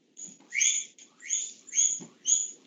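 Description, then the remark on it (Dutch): A small bird chirps four times in a steady rhythm, each call a bright, high, slightly raspy burst, clear over a faint low background hum. “Een vogeltje fluit, vredig.”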